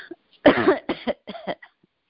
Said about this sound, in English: Obviously, there's some congestion there. So, just coughing it out.